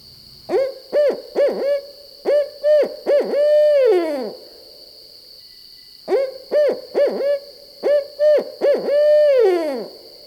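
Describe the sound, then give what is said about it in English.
A male barred owl gives its mating call twice in a row, each phrase a quick series of clear hoots ending in a long, drooping note. It is strong over a faint, steady high-pitched hum. “Next, let's listen to the mating calls of the barred owl, something you may have heard in our area.”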